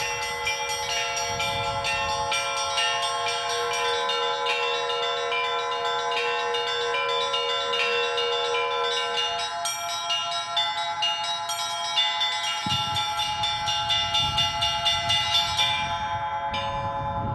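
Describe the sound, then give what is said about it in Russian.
Church bells on a mobile belfry, brought to a celebration, ring loudly and continuously, their overlapping tones humming and sustaining, with a burst of fresh rapid strikes toward the end; the heaviest bell weighs 80 kilograms. No voices are heard. “То есть вы берете звонницу и приезжаете на праздник?”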